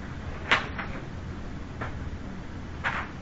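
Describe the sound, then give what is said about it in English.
The door of a winter house being tied shut with a rope on a sunny Shabbos afternoon: four soft, irregular knocks and scuffs of wood and cord, over a faint steady background hum, with no voices. “And I'm locking it up with my rope.”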